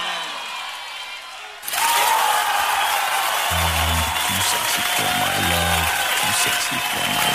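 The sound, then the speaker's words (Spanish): After a quieter opening, loud, dense audience applause for Abel Pinto Vieja breaks out and carries on steadily to the end, with a few brief low hums or calls rising within it. “Un aplauso enorme para Abel Pinto Vieja.”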